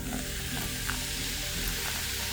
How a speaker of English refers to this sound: Using canteens filled with cranberry juice, they gingerly poured the contents into the inner chamber that contained the uranium soccer ball and palladium housing. French could hear a low hiss as the uranium reacted to the acid.